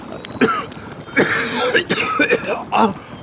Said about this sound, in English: I'm coughing up blood. I believe a lung is punctured.